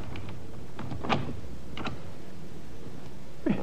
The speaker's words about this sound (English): The wife said, "Let me try the front door, just for luck." John Agard said, "It won't help her. I've tried several times." The woman tried it.